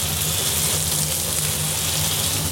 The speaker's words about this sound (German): Ist ein bisschen Wasserrauschen.